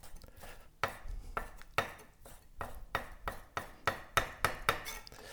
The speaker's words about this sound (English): So now you're just dicing the raw salmon. Yes. The small dice.